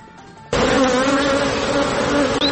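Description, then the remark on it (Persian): A dense, steady drone of many honeybees buzzing around hives kept by women beekeepers in Herat, Afghanistan, swelling in abruptly after a brief quieter moment and holding loud and constant, like a busy swarm. “مطالب دیگری هم داریم و در گزارش از هرات میشنویم که کاروبار زنان زنبوردار رونق خاصی دارد.”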